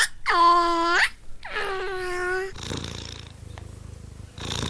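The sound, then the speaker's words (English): Two drawn-out, tonal meow-like calls give way to a steady cat purr, a soft rhythmic rumble that continues for a couple of seconds. “A sound that I like is the sound of a cat purring.”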